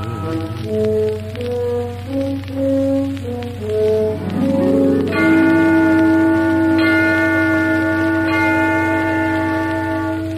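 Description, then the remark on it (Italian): Church tower bells ring out a short stepping melody over a low steady hum, then several heavier strikes follow, each leaving a long, layered ringing tone that hangs in the air. “Ding dong dong, suona lieto il campanil del Redentore.”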